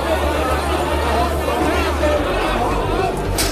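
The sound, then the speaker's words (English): A dense, steady wash of crowd chatter in Hong Kong at New Year's midnight, people waiting, many for five or six hours, to make an offering, many overlapping voices blending into a continuous hubbub with no single speaker standing out, holding at an even loudness throughout. “The crowd here are waiting patiently. Many of them have been here for 5 or 6 hours.”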